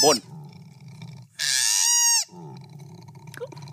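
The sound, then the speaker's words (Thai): A koala bellows after a fall: a loud, drawn-out harmonic wail lasting nearly a second, framed by a brief cry at the start, low rumbling grunts throughout and a short squeak near the end. “ส่วนอันนี้นะครับเป็นโคอาลาที่ตกมาจากต้นไม้แล้วกำลังโวยวายอยู่ใช่ครับมันร้องอย่างนี้ครับ”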